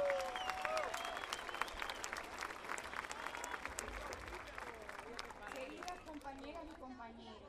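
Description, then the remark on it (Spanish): Sustained audience applause, a dense crackle of many hands clapping at steady loudness that gradually thins toward the end, with faint crowd chatter and a few voices mixed in, welcoming a Cuban representative of the Organization of Solidarity with the Peoples of Africa and Latin America (OSPAAAL) at the third Continental Social Forum. “Un aplauso entonces para la compañera.”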